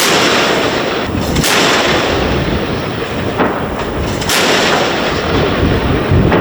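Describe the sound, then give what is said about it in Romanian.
An Oto Melara 76 mm naval gun fires several loud, booming shots at uneven intervals of a second or two during a Romanian Naval Forces firing exercise, each a sharp blast over a constant heavy roar of wind and engine noise. No one speaks. “Am desfășurat această tragere în condiții de siguranță cu tunul otomelara de 76 de mm, având de asemenea în grupare și fregata 111 și nava purtătoare de rachete 188.”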